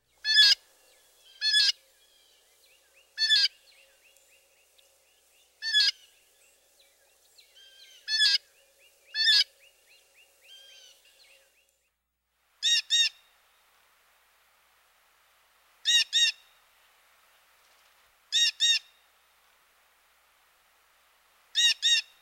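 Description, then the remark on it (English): Blue jays give loud, harsh jay calls, about a dozen in irregular bursts, some overlapping with fainter calls in the background like a small chorus, then a few clearer, spaced calls near the end. “These harsh JJ calls are often heard in chorus as flocks of these noisy birds move about.”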